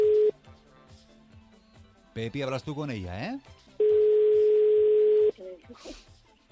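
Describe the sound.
A brief phone tone at the start, then a man speaks, followed by a loud, steady telephone tone holding for about a second and a half before cutting off.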